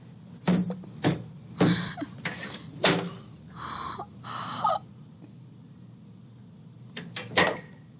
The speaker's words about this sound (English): So apparently in Texas, somewhere in Texas, there's a little white boy. There's a video on like a Ring cam of him at this black family's door, and he has a whip, and he's whipping the door.